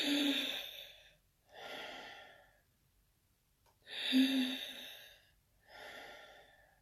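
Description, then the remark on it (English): Two slow, deep breaths, each a noisy inhale followed by a long sighing exhale, with short quiet pauses between them and no talking. “You can't take a deep breath.”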